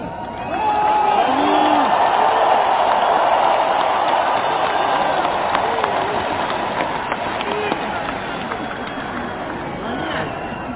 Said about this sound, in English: There was a report out just yesterday, I believe it was, that Putin made an appearance in a large, crowded stadium in Moscow. And Putin praised the Russian forces in Ukraine, and the crowd started chanting. Listen.